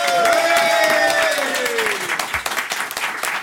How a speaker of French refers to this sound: Applaudissements pour Olivier Delacroix.